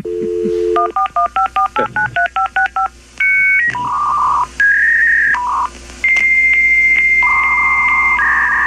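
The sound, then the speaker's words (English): A dial-up modem connects: a quick run of about ten touch-tone dialing beeps, then shrill handshake tones, warbling squeals and hissing static bursts, loud with no voices. “Dial-up modem. It's that yes, is a dial-up modem.”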